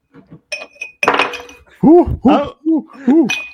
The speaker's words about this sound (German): Oh, das sind die Eiswürfel. Das Eis, das Eis klimpert, Achtung.